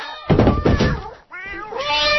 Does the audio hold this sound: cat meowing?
yes